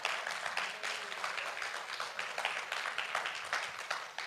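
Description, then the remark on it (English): A crowd applauds the speaker steadily, many hands clapping in a dense, crackling wash that holds at an even, moderately loud level for several seconds with no talking over it. “So my friends are clapping for me because y'all want me healthy, and I appreciate that.”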